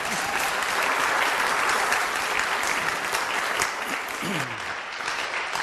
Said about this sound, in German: Kleiner Applaus.